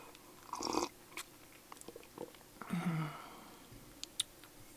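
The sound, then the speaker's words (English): Two loud slurping sips of a drink during an ASMR recording, separated by small wet mouth clicks and swallows, over a faint steady hum from a computer server; no one speaks. “I normally don't sip so loudly, but...”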